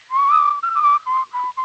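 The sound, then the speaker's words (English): A person whistles a short tune alone, clear and steady: a long sustained note, then several shorter notes with brief gaps, fairly loud. “how can we do this whistling when you're going to die?”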